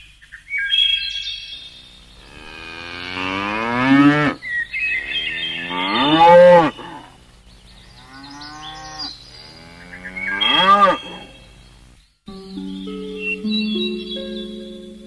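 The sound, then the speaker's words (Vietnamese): Buffalo and cattle returning to their pens at sunset, heard from afar, low in a series of long, drawn-out moos, four or five overlapping calls with rising and falling pitch, while birds chirp faintly in the background. No one speaks. “Duy có tiếng trâu bò về chuồng giống từ đằng xa vẳng đưa lại.”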